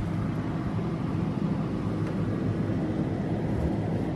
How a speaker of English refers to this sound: We'll step into the kitchen, so there's always those nice sounds. Of course, my favorite, the freezer.